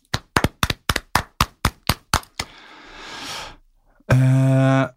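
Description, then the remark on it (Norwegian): A short burst of applause, given as a tribute to Thomas Donohoe and the Bangu football club: about ten sharp, evenly spaced claps in a quick steady rhythm. A soft hissing wash and then a loud, harmonic buzzing tone follow. No one speaks. “Derfor så skal vi bruke dagen I dag til å gi en liten applaus til Thomas Donohoe og Bangu.”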